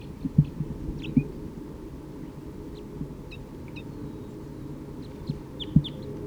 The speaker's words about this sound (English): And there is a vocalization of a wild bird from the trees here. Sounds like alarm calling.